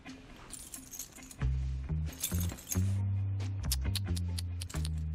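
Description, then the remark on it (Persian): A bunch of motorcycle keys jangles as they are handed over, in a series of bright metallic clinks and rattles, scattered irregularly over a low, steady droning hum. “موتور آوردی؟ کلیدا رو بده.”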